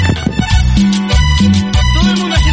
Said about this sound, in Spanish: Todo el mundo haciendo palmas.